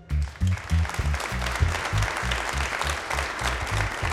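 An audience breaks into sustained applause after rock lyrics are read aloud to them, a dense, steady wash of clapping that holds at an even loudness for several seconds, with a rhythmic low thumping running underneath.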